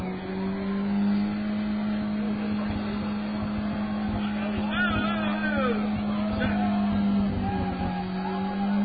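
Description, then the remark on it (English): A car doing a burnout, its side-exit exhaust roaring at a high, steady rev while spinning tires grind into the asphalt and squeal in short rising whines over the loud, continuous drone. Muffled voices may sit underneath. “And we congratulate him for destroying a set of tires.”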